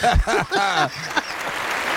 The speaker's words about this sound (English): I gotta give myself applause.